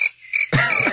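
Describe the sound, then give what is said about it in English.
A crickets-chirping sound effect: thin, high chirps at first, then a louder, dense burst of trilling night-insect calls, with no one speaking. “I'm gonna let them crickets ride.”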